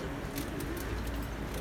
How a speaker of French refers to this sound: Le marché du dimanche. Stand de fromager.